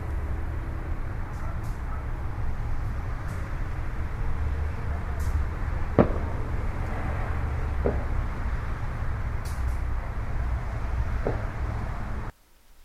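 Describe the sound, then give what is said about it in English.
Fireworks in Akron, Ohio, on July 4th, 2009, pop a few times, sharp isolated bangs at irregular intervals over a constant low outdoor rumble, with muffled crowd or voice murmur in the background before the sound cuts off abruptly. “Alright then, well, we're going to wrap this up and hope you have enjoyed listening to some of the fireworks here from Akron, Ohio, July 4th, 2009.”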